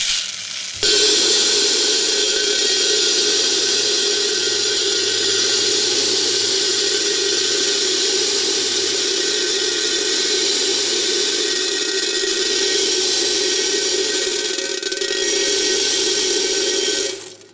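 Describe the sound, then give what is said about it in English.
A dense, hissing rattle of 10,000 BBs poured steadily into a container, loud and unbroken for about sixteen seconds before stopping abruptly. No one speaks. “And now I'm going to pour in the amount of BBs that equals our current nuclear arsenal.”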